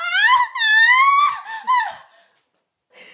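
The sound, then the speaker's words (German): A voice performs exaggerated, staged, faked orgasm moaning: several loud, drawn-out high-pitched moans that rise and fall, trailing off into a breathy sigh before a short silence and a faint breath. “Du sollst ja mal einen gefakten vorspielen jetzt.”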